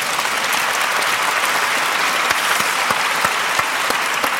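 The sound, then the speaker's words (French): Steady audience applause as the magician Raphaël Navarro is welcomed to join, a dense, even wash of many hands clapping at a constant loudness, with a few sharper individual claps standing out and no voices above it. “L'applaudir.”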